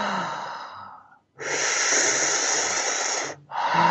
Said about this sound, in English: We call it base chakra breathing. So essentially you're breathing in like you would through a straw.